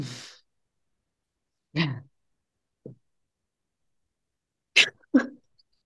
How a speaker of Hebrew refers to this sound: שמתי לב שלקחת נשימה עמוקה אחרי הבכי.